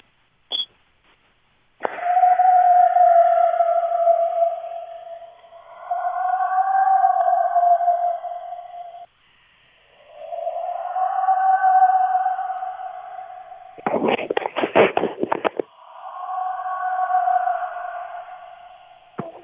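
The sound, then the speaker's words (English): A series of long, wavering, high-pitched screams, each held for a couple of seconds with a rising and falling tone, broken by a harsh, crackling burst partway through. No one speaks. “That's a very unnerving scream right there, and we've had you on the show before.”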